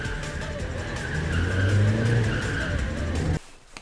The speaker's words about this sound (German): Immer im Kreis. Mit quietschenden Reifen und mit Lichtkegeln, die auf die umstehenden Bäume und Laternen einprügeln. Und das Eis platzt und das Eis schmilzt und das Auto fliegt. Ein bisschen.